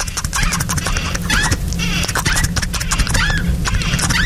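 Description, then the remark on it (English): A squeaky door hinge creaks repeatedly as the door is oiled and swings back and forth, its high rising and falling squeals mixed with soft clunks and rubbing noises, fairly loud. “Are you polishing a knob on a squeaky door? Nearly. I'm oiling a door.”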